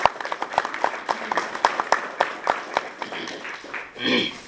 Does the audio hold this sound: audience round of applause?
yes